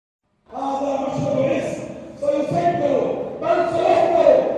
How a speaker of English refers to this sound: A large crowd took part in the funeral procession in Gaza City.